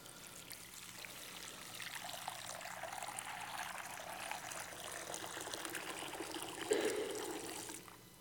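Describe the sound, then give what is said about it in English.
Baptismal water pours steadily for several seconds during a remembrance of baptism, a continuous splashing trickle that swells slightly near the end before tapering off, with no one speaking. “We use water.”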